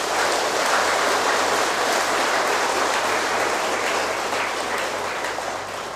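Loud, sustained applause from a large audience at a talk, given on the speaker's call for a big round of applause, a dense wash of many hands clapping at once that holds steady for several seconds before easing slightly at the end, with no voices.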